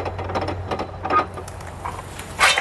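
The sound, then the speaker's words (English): The oldest working steam engine in the world, supplied with steam by a boiler and still doing its original job, runs with repeated mechanical clanks and hissing bursts over a steady low hum, moderately loud, with no voices. “This boiler is supplying steam to an engine that is still doing its original job. It is therefore the oldest working steam engine in the world.”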